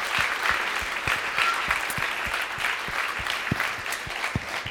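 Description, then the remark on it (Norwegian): An audience applauds the actors steadily, a dense wash of many hands clapping at a moderate level with a few sharper individual claps standing out, no voices on top. “Da synes jeg vi må gi en skikkelig applaus til disse skuespillerne våre.”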